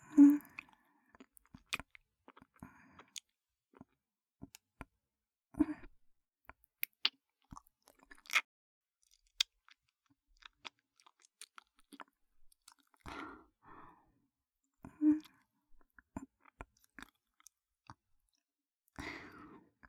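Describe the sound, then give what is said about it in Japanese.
Wet licking and smacking mouth sounds from a woman very close to a newly bought microphone, with soft sticky clicks and squelches arriving in irregular bursts against near silence, with no talking. “お姉ちゃんが生々しく舐める音、なんな風に聞こえた？”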